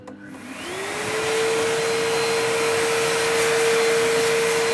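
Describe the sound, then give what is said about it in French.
An electric hand dryer, used to dry a child's hands after handwashing, starts up with a rising motor whine that settles into a steady hum, paired with a loud, continuous rush of blowing air lasting several seconds. “Maintenant, tu peux les sécher.”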